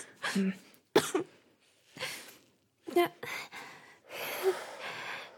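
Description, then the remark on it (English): Repeated harsh coughs and ragged gasping breaths in bursts from a girl after taking a drag while smoking, with short pauses between fits and a strained, breathy wheeze near the end. “Oh, there we go. Cough it out.”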